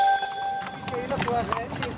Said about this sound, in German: Die Fiaker, die von 2 Pferden gezogenen offenen Kutschen, gehören zu den größten Touristenattraktionen in Österreichs Hauptstadt Wien.